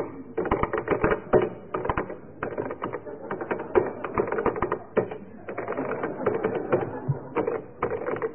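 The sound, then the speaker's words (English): Crisp keystrokes clatter in quick bursts, separated by short pauses, with a mechanical, typewriter-like clack and steady rhythm throughout and no one talking, as someone types out text from a novel on a keyboard. “tap out something for you to identify on a different keyboard.”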